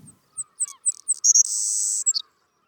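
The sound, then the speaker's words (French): A recorded bird call of quick high chirps that speed up into a sustained bright trill, ending with a couple of sharp notes. It is clear, with no talking over it. “Oui, donc je vais vous faire entendre cinq oiseaux qui sont particulièrement contrastés.”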